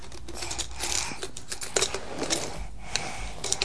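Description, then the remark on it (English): Small clicks and scratchy taps as a pencil pushes little pieces into place, coming in an irregular patter of light knocks with brief scraping between them. “And put them in, you push them in with the pencil.”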